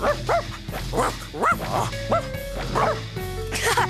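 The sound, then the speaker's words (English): Several dogs, including Clifford, bark and yip excitedly in quick, repeated bursts, loud, with a few higher whiny tones mixed between the barks. “I think your dogs want to come too.”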